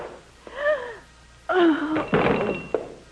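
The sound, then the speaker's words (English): A man fumbles at a locked door: a burst of rattling and a dull clunk, preceded by strained, creaking, wheezy tones, with no talking. “He's still alive, still trying to unlock it.”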